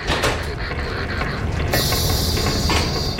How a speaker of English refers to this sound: Whatever hit us did some serious damage. The whole sub is shuddering, and I can barely stay on my feet.